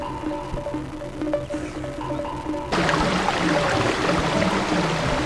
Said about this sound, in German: Meine Güte, hört das denn nie mehr auf? Früher oder später bestimmt. Aber im Moment stehen 12 Klassenzimmer unter Wasser. So ist das bei einem Wasserrohrbruch.